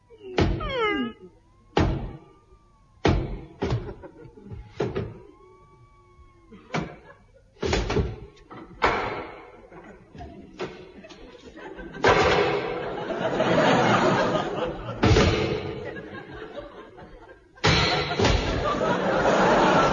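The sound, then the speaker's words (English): Heavy knocks land on a large castle door in irregular bursts, loud, with brief vocal sounds between them, then a stretch of rough, rumbling noise toward the end. “Now, lift me up and I'll knock.”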